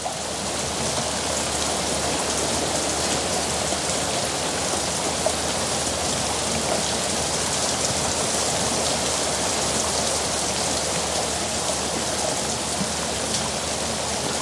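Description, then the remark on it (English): Heavy rain pours down steadily outside, a dense, continuous wash of hiss and patter with no pauses, loud throughout, with no voices. “Rain pours outside.”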